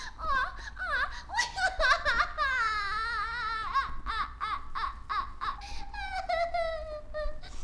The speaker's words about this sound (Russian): Принцесса, почему вы плачете? Вам помочь? Кто вас обидел?